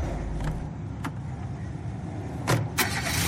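A car engine starts and settles into a steady low rumble, broken by a few sharp clicks and knocks, the loudest near the end; no voices.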